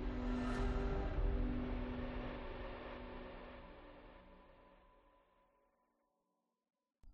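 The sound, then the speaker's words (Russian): A garage door motor whines as the door slides down after its button is pressed with a mop handle, a steady humming drone that slowly fades over several seconds, followed by a moment of silence and a brief sound at the very end. “Я нажал кнопку рукояткой швабры, мотор взвыл, и дверь заскользила вниз.”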